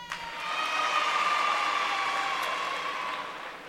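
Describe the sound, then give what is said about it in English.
An audience applauding at a live concert recorded at Carnegie Hall, New York, in 1971: a dense, steady wash of many hands clapping that swells slightly and holds evenly for a few seconds, with no voices over it. “This is probably a sure way to get applause, but I was born in Brooklyn.”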